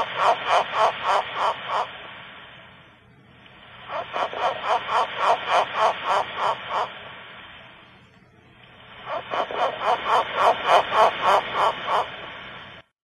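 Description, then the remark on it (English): A pig frog calls in three bursts of rapid, rhythmic grunting pulses, each run lasting about two seconds and separated by short pauses, over a steady hissy background. “It's a piggy. A frog.”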